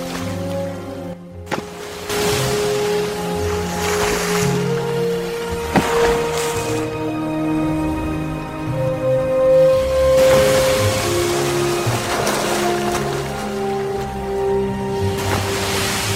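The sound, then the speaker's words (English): Steady roaring wash of cold, rough ocean surf surges and recedes in broad swells, with long sustained tonal calls drifting over the rushing water throughout. “They can send sound signals to one another above the roar of the ocean by slapping fins on the surface.”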